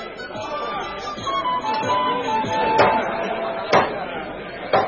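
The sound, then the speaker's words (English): A crowd of many voices fills a great hall in a town, with long crowded tables, a steady, overlapping murmur of chatter, broken by a few sharp clacks like dishes or cutlery on tables. “From a great hall shone many lights, and there came the sound of many voices.”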